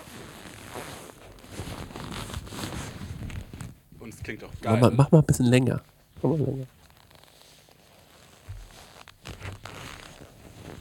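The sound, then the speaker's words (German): Leather trousers (lederhosen) creak, recorded with a microphone placed at the wearer's crotch, in two loud, rubbing bursts, a longer stuttering squeak followed by a shorter one, with low, strained tones; people talk before and after the creaking. “Das habe ich mit reingenommen, weil ich euch einfach nochmal von meiner Lederhose erzählen will. Mach mal das Geräusch.”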